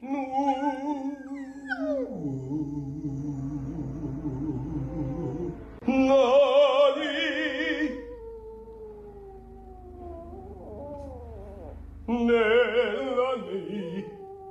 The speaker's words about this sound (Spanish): Pero sí canta, ¿eh? ¿Qué clase de perrito es? Es un perrito chiquito. ¿Qué perro es? Es un chihuahua. Es un perrito chihuahua que canta.